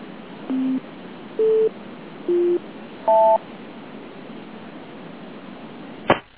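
A series of four short electronic phone tones from an incoming phone call, each at a different pitch and roughly evenly spaced, sounding over steady line hiss, followed a few seconds later by a sharp click.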